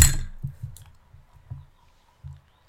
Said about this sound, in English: I wanted them to hear the plastic breaking. As I drop it. Okay. And here it goes.